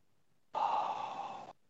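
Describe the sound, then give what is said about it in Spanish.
A single long, airy deep breath, steady for about a second before cutting off, like a deep sigh out. No talking around it. “La respiración profunda.”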